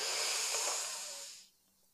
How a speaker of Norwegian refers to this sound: Og hold pust. Og så puster vi godt inn en gang til.